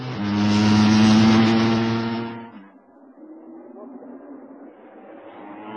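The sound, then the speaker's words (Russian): A racing car engine roars loudly with a steady, buzzing drone for a couple of seconds as a stalled race car is restarted and drives off during a race, then abruptly drops away, leaving a faint rumble and background noise. “Кажется, заглох двигатель. Пытается завести. Да, вот и они уехали.”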